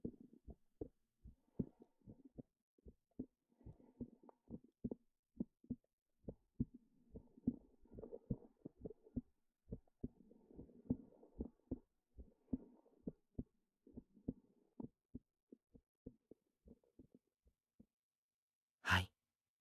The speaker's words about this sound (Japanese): 心臓の音を確かめて。